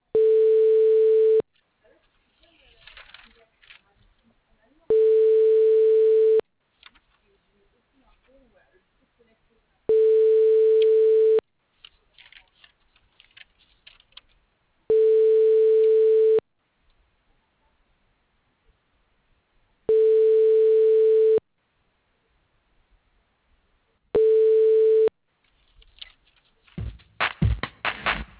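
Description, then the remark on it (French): A telephone line tone while a call is transferred at the phone line of the Maison de Santé Protestante de Nîmes: a steady mid-pitched beep sounds six times, each lasting about a second and a half with longer silent gaps between, ending in a brief rustle of noise. “Je transfère votre appel.”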